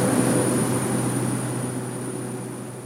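A steady, loud engine drone with a low hum and a high whine as a propeller airplane's engines turn on and run up for takeoff on a flight to Kalaupapa on a hot day in June, continuous without any voices.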